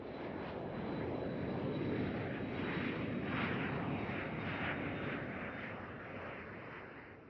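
airplane taking off

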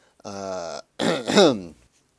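throat clearing

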